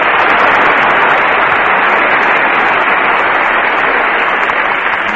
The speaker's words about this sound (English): There are so many in the orchestra, I guess by the time you divide that applause up, it'll run into fractions.